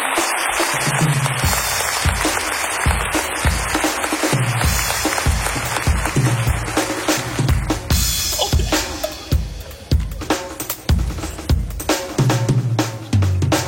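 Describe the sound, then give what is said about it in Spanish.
A large audience claps loudly and steadily for more than ten seconds, a dense wash of hands with faint cheering and low thumps running underneath. “Y nada, este caso ha sido espectacular y un fuerte aplauso para ellos.”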